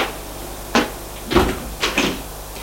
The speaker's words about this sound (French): Ils vont prendre l'ascenseur. Et à l'étage, il ouvre la porte de l'ascenseur.